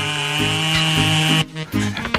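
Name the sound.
chainsaw cutting wood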